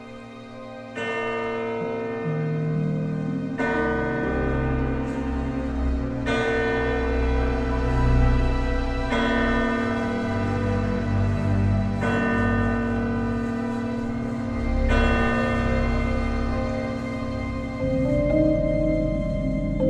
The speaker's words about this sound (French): Comme dans les vrais crimes, l'horloge sonna minuit.